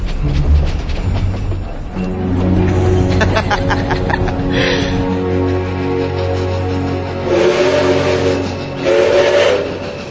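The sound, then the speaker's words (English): A steam train's whistle sounds loud, its tones held over a low rumble, while sharp bursts of hissing steam erupt a few times, twice near the end. “They have missed the train.”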